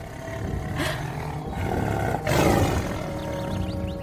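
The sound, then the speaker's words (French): The tiger Shere Khan lets out a loud, rumbling roar as he suddenly appears in the jungle, with a couple of powerful bursts swelling over a low growling undertone and no voices. “Quand tout à coup, surgit le tigre, Shere Khan.”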